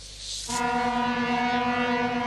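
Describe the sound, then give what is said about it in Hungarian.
A locomotive horn, sounded as a warning to a car stopped on the tracks during a MÁV railway safety demonstration, starts abruptly after a brief rush of noise and holds a loud, steady, multi-toned blast to the end. There is no talking. “A mozdonykürt és a vészfék hangja is jelzi, hogy az autó rossz helyen állt meg.”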